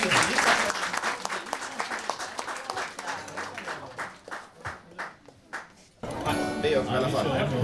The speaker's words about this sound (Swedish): Stor applåd!